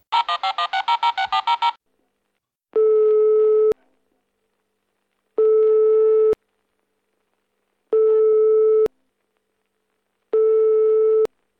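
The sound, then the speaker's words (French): A quick flurry of electronic dialing beeps, then the steady ringback tone of an outgoing call a woman places on her phone: four even, one-second buzzing tones spaced by pauses, clear, with no voices. “Et se levant, en claquant des doigts, elle chercha son téléphone, puis appela.”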